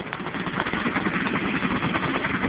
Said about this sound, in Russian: Какого черта? Кто завел вертолет?